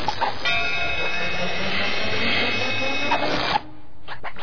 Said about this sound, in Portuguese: Vão, vão, Gadgets Helicóptero.